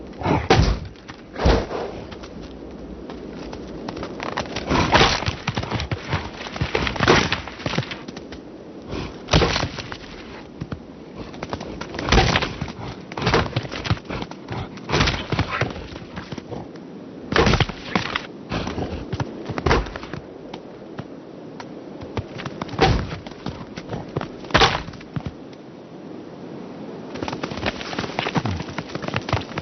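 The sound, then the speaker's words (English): Male bighorn sheep clashing horns in battle in the Yellowstone wilderness at the end of autumn: loud, sharp cracking impacts repeat at irregular intervals, some in quick pairs, over a steady low rushing background. No voices are heard. “The sound of their battles echoes across the Yellowstone wilderness.”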